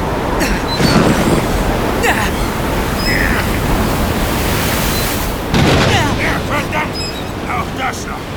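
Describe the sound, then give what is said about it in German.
A thunderstorm at sea roars steadily with howling wind and crashing waves, loud throughout, with heavier surges breaking in around the start and again past the middle. “Es erhob sich ein schwerer Gewittersturm, schwerer als sich zunächst vermuten ließ.”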